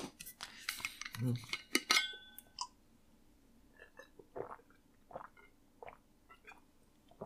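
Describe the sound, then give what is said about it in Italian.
Someone takes a sip of water: a few sharp clinks of a glass or bottle being handled, a soft low gulp, then scattered small mouth and handling noises. “Mi faccio una bevuta d'acqua.”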